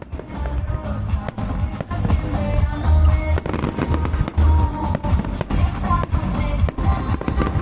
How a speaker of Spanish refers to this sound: Se trata de esa explosión multicolor, también musical, del gran espectáculo piromusical Cierre de Fiestas 2024, que se realizaba desde la ampliación de Aguas Vivas.